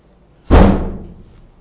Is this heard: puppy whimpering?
no